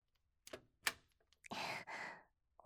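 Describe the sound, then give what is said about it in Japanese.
A key clicks twice in a lock, sharp, followed by a longer scraping rush as the door to the speaker's room swings open; no one speaks. “この鍵ですか？私の部屋は、さっちゃん以外両親にも入らせないので。”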